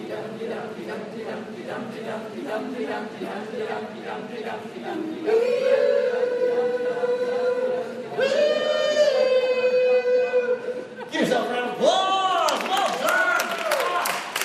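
A live crowd claps steadily and cheers, with loud sustained whoops and shouts rising over the applause, then swelling into bursts of excited yelling toward the end.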